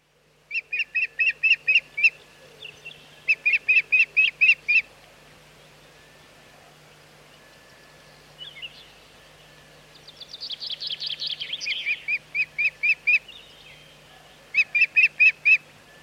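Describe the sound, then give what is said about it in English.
An osprey calls in several bursts of sharp, piercing whistled chirps, rapid and evenly spaced, with a longer, harsher run in the middle, set against a quiet steady background hum. “A migratory bird, the osprey is present in the UK in the summer.”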